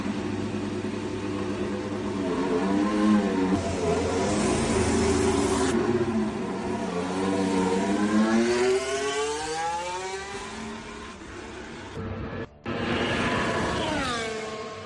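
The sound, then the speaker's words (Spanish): A Williams FW45 Formula 1 car, from two seasons earlier, running on track, its engine screaming up and down through its revs, with rising whines, a sharp drop at one gear change, then climbing again. Loud and continuous, with no voices. “Así suena Carlos Sainz subido al Williams FW45, el peor coche de hace 2 temporadas.”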